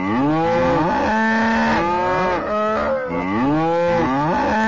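Several cows moo loudly and close by, their long, drawn-out calls overlapping with rising and falling pitch, one after another with no pause and no voices.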